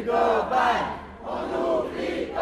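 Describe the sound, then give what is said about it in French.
A protest crowd at a march against poor housing, gathered with many Marseille collectives at the bottom of the Canebière by the Vieux-Port in Marseille on 3 November, chants in loud, rhythmic bursts of massed voices, the phrases rising and falling in a repeating cadence with a brief dip between them. “Et c'est la manifestation contre le mal logement.”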